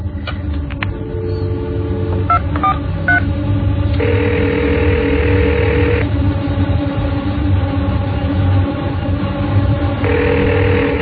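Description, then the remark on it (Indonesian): A parallel desk telephone on a supervisor's desk is handled and dialed to call the security post: short clicks, then a series of steady tonal beeps from the keypad, over a constant low hum with no voices. “Aku berdiri menghampiri telepon paralel di meja supervisor. Lebih baik aku telepon satpam di pos deh buat nemenin.”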